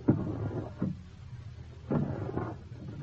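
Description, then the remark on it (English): The bottom drawer of a desk is eased open in a few short, low wooden scrapes and rumbles, with brief pauses between pushes and no voices. “Somehow I pick my way over to the desk, kneel down, and start easing the bottom drawer open.”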